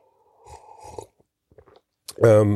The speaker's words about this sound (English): Excuse me while I just have a sip of coffee.